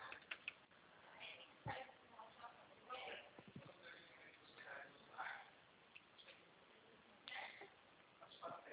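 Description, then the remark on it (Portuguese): Faint, scattered clicks of typing on a computer keyboard come in irregular little bursts over a soft, muffled background, with what may be low, indistinct voices. “Tô digitando para você.”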